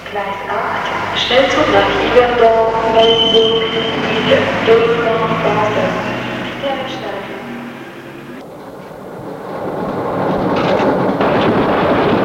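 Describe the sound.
A train for Paris rumbles as it pulls away from Perrache station, steady mechanical noise with whining tonal hums rising and fading over the first half, then a rougher, swelling rush of wheels and air, with muffled voices underneath.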